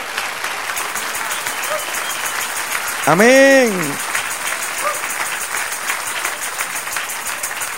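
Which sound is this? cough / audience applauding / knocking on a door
audience applauding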